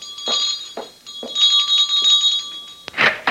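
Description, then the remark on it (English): A doorbell rings insistently, a bright, high-pitched bell struck in quick repeated clangs with a sustained metallic shimmer between strikes, loud and alone with no voices. “How damnably long does it take you to answer the door?”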